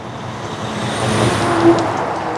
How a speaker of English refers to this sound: Kimball's a tiny town in northern Wisconsin where you're more likely to hear the rumble of logging trucks than the screech of an ambulance siren.